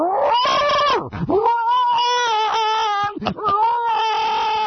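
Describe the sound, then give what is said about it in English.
A voice imitates the yowl of a declawed pet cat, Furball, fighting another cat: loud, drawn-out wailing tones that rise and sag, broken by two brief dips, with no other talking. “So she's just fighting the fight with her mouth. Oh, so she's the one making the noise. Yeah, she's just, like, going...”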